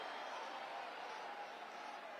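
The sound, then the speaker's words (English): A large crowd at a rally speech by Governor Tim Walz in Philadelphia roars and cheers continuously, a dense, steady wash of many voices without pause for the full couple of seconds. “The crowd likes that remark.”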